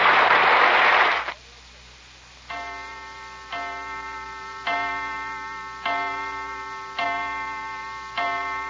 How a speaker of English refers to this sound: Heavens, there's the chime. Already it's dinner time.